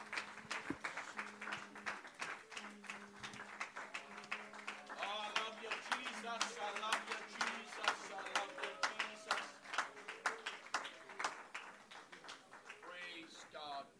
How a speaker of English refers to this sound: Why don't you just put your hands together and just magnify the Lord with a hand clap of praise today.